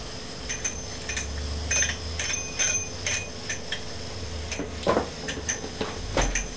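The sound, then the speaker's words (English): A bicycle bell on the handlebar rings in a series of short, thin metallic dings at irregular intervals, fairly quiet, over a low rumbling background with occasional clunks. “You ring the bell. And now you've got a bell there. You've got a bell on the handle.”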